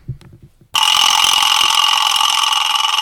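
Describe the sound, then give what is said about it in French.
A few soft low thumps, then a tractor engine abruptly roars to life as the driver climbs back into the tractor, a loud, harsh, steady mechanical drone that holds without pause to the end. “Je remonte dans mon tracteur et il fait.”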